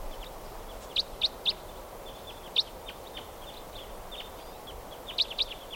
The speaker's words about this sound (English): Oh, and a type 4 bird happens to be flying over right now. And it may have stopped.